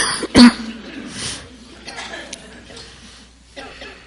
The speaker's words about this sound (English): Okay. Ready? Let's meditate. Okay. Clear your throat.